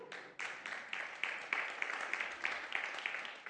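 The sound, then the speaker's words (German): An audience applauds steadily, many hands clapping together in a dense, bright patter that starts suddenly and holds at an even level for several seconds, with no voices over it. “Ihr dürft gerne klatschen, wenn euch das begeistert.”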